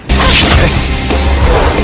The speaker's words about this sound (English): And it's just these whooshes. Yeah. It's just... It's and like little, like, laser sounds. Laser guns.